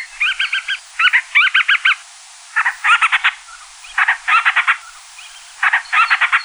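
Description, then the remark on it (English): Band-rumped storm petrel (Akeake) calls at a breeding colony: about six bursts of rapid, raspy chattering notes, each phrase a quick stuttering run of squeaky pulses, repeating with short pauses and no voices. “One of the best ways to find them is to listen for their calls around their breeding colony at night.”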